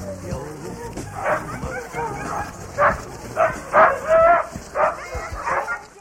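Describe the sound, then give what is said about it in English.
A pack of sled huskies in Finnish Lapland barks and yips excitedly in repeated bursts, several dogs overlapping, with a few whimpers between the louder barks. “My journey to Finnish Lapland would not have been complete without taking a spin in a husky dog sled.”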